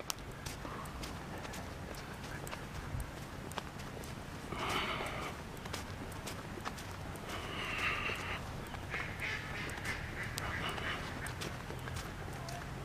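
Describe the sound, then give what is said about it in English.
Ducks quack in a few short bursts over steady outdoor background noise in a park with streams, with quieter stretches between the calls. “The ducks flying.”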